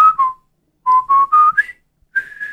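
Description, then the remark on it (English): Someone whistles the Colonel Bogey March alone: two short notes, a pause, then a run of clipped notes climbing in pitch and ending on a higher, held note, bright and clear. “So name this tune for me”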